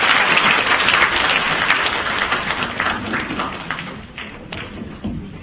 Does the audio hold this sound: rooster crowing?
no